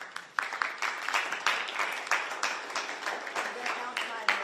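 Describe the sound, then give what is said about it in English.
An audience applauds steadily for several seconds, a dense wash of many hands clapping at a fairly loud, even level, with some crowd voices mixed in, applauding the groups present for their outside mobilization at an event joined by members of the Select Committee. “And to all of the groups here represented, for your outside mobilization, let us applaud them.”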